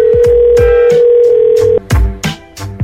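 A steady, loud telephone ringing tone on a call hums for nearly two seconds before cutting off abruptly, with rhythmic thumping beats running underneath and continuing after it stops. No one speaks.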